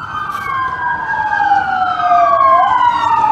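A police motorcycle's siren wails loudly, its pitch sliding steadily and the sound swelling as it approaches and passes, with road noise beneath and no talking, on a cold morning of about 10 degrees in Washington, DC.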